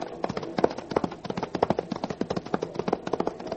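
Hooves of several galloping horses, ridden by riders riding up alongside a train, pound along in a fast, uneven rhythm, a dense stream of fairly loud clip-clops with no voices.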